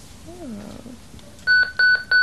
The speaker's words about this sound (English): What was that? A lip alarm? Sort of. See, I'm being paged by my girlfriend, Shannon. If I don't check in with her every 15 minutes, she gets this crazy idea I'm cheating on her.